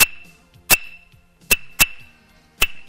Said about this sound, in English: This is a rhythm stick that we make our music with. People pick it up and say, I can play it. Hear the dullness? They're holding it. No. Put it in your hand, and there you go.